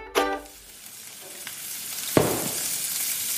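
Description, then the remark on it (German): Carbonara sizzles and crackles steadily in a hot pan while a utensil clatters against it, with a sharp scrape or clang near the start and another midway as the mixture is stirred to finish it. “Jetzt gilt's Carbonara fertig machen.”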